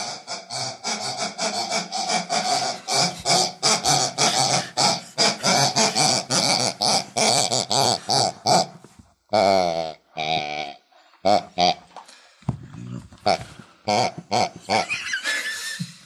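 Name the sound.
pigs grunting and oinking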